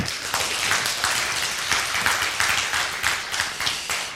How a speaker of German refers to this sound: Bitte einen ganz großen Applaus,